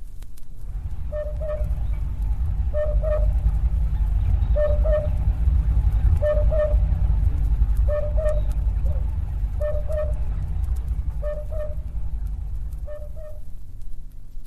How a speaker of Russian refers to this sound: И обыкновенная африканская кукушка, которая поет почти так же, как наша.